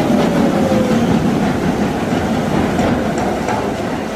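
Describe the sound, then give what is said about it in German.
A London Underground (Tube) train rumbles steadily along the tracks, a loud, dense roar with a faint high squeal and occasional metallic clicks, continuous with no voices. “Die Londoner U-Bahn, die von den Londonern aber nur Tube genannt wird, das heißt Röhre.”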